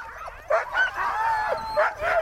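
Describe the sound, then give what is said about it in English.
Several excited huskies, being picked up to be roped onto a sledge to go up a glacier, yip, whine and bark in quick overlapping bursts, their high, eager cries running together continuously with no talking. “Here's my report, which starts with me picking up some very excited huskies to rope onto a sledge to go up a glacier and then down a hole under the glacier.”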